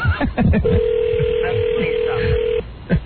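A telephone call to a woman rings out with a single long, steady ringback tone lasting about two seconds, heard over a phone line with faint background voices and clatter around it.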